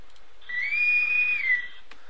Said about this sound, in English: Well, my friends, that's the whistle for today.